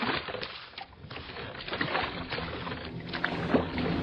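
Oars of a boat splash and churn through water in a steady, continuous wash of sound, with rhythmic dips of the blades and no voices.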